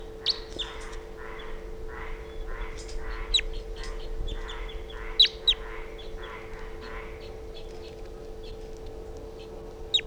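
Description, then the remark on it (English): A bird numbered 348 calls weakly, giving a soft, steady series of repeated notes followed by a few thin, high chirps, all faint over a constant low hum. “Calling very weakly.”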